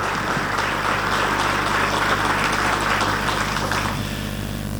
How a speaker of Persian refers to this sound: تشویق حضار رو میبینیم برای آقای پنس، معاون ریاست جمهوری امریکا.